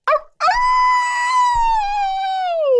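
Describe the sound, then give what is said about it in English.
A person does a test werewolf howl: a short rough yelp, then one long, loud, wavering cry that holds steady before sliding downward in pitch at the end. “I did some test howls to make sure she was going to be okay.”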